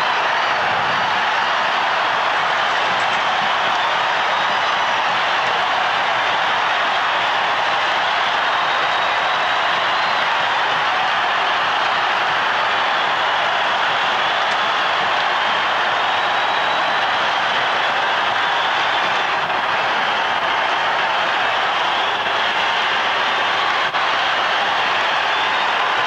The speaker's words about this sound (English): The crowd just keeps going on, by the way. It was pandemonium.